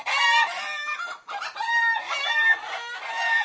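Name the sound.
hen clucking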